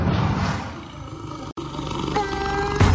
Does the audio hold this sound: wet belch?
no